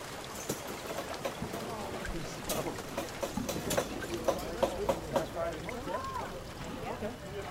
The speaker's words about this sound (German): Eine Gruppe Partygäste lässt sich auf die Rücksitze eines weißen Jeeps plumpsen. Noch während der Fahrer den Motor anlässt, platzt der Himmel auf. Die nächsten 4 Tage regnet es. Die Straßen verwandeln sich in Seen.